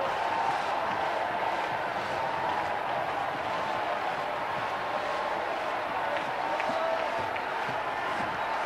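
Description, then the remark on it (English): An audience at a worship service claps and cheers in a dense, steady roar of applause and shouting voices that goes on without pause for several seconds. “If they can curse him, if they can worship the devil, surely you can clap. Surely you can stomp a foot. Surely you can cry out.”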